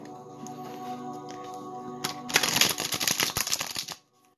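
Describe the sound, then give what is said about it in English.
Tarot cards being shuffled, a quick burst of dense, rapid flicking and clattering lasting under two seconds, over a steady humming tone in the background. No one speaks. “Do you guys hear the cards when I shuffle them?”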